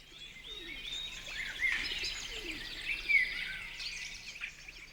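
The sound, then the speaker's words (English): Several birds chirp and twitter continuously, their high, overlapping calls forming a busy chorus over a quiet outdoor background, with no voices. “Until then, it was as if time had decided to slow down for a while, and the world belonged only to her and the birds chirping.”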